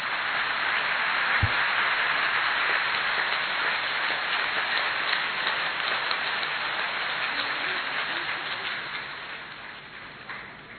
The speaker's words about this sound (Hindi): सब एक बार जोर से तालियां बजाएंगे।